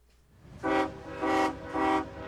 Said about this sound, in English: At this rail yard in Worcester, I'm watching a hulking freight locomotive on the move. Freight trains still crisscross this city, going over rusting bridges.